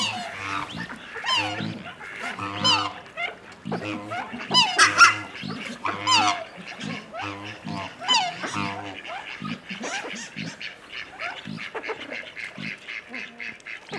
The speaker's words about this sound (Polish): Tutaj ptactwo wodne. Kaczki, gęsi, łabędzie. Czarne łabędzie. Tak, czarne łabędzie.